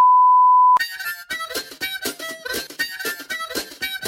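A steady, high censor bleep over spoken words holds for under a second, cutting off abruptly as a dense, rhythmic burst of louder sound takes over.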